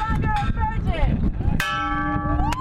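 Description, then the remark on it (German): A metal bell at the entrance gate of the Burning Man festival in the hot, dusty Nevada desert is struck sharply once by festival newcomers lying in the sand, giving a loud clang that rings on with a sustained, shimmering tone over a busy background of crowd noise and faint chatter. “Es ist heiß, es ist staubig und die Burning Man Virgins, die Festival-Neulinge, müssen sich in den Sand legen und gegen eine Glocke schlagen, um ihre Jungfräulichkeit zu verlieren.”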